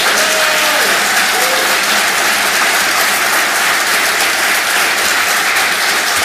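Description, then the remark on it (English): Loud, sustained audience applause fills the whole stretch, a dense steady wash of many hands clapping at once with no break and no voices standing out: a big round of applause for two advocates within the state government. “On this occasion, please give them a big round of applause.”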